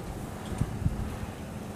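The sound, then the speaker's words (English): Strong wind blows outdoors at the corner of Magic Way and Disneyland Drive, across the street from the Downtown Disney sign, a steady low rumble buffeting the microphone with a couple of brief thumping gusts; no one speaks. “As I'm sure you can hear, it's really windy.”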